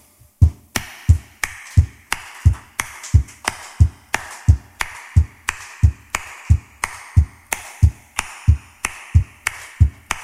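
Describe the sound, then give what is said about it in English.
An audience stamps and claps along to a song in a steady, brisk rhythm of about 96 stamps a minute: a low thud of many feet followed each time, as the feet come up, by a sharp burst of hand claps, repeating evenly with no talking. “If you would be kind enough to help me out, you could start by stamping your foot about 96 times a minute.”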